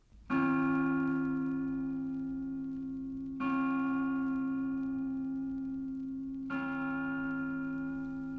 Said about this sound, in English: When the broadcasting of the Angelus Bell at noon and 6:00 from the Pro-Cathedral of Dublin began, a permanently placed microphone used to be switched on to pick up the sound of the bell as it was rung.